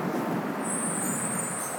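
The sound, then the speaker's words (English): A bus rumbles in steady traffic noise, and a sharp high hiss like an air brake joins partway through and holds to the end. “Hi, bus.”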